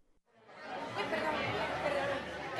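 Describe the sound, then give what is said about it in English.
Steady crowd chatter fills a bustling tapas bar in Spain, many overlapping voices blending into a continuous, lively murmur that swells in after a brief quiet start and holds at an even level. “Judging from the crowds in Spain's tapas bars, you might wonder where the economic crisis is.”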